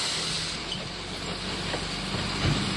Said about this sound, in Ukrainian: Зараз я їду в сміттєзбиральній машині до місця, де ми будемо вигружати сміття. Я стою біля величезної купи сміття. Тут страшенно смердить, все в диму. От ви чуєте, як вигружається сміття зараз?